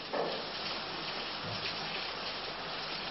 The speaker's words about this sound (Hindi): खरीफ धान के बीज बोए थे, कुछ निकले कुछ निकल रहे थे, उस पर से ये लगातार हो रही सुबह से डेढ़ घंटे से भी अधिक से हो रही लगातार झमाझम बारिश ने खेतों में पानी लगा दिया है।